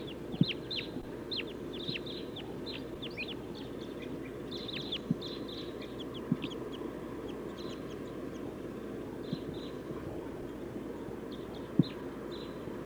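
flock of crossbills calling

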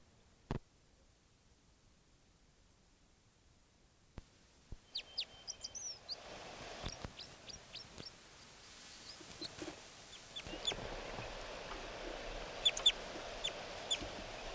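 bird flight calls

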